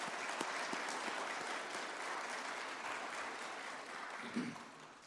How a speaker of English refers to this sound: We had a great breakfast this morning, and I think we need to give everybody that made it possible a big round of applause.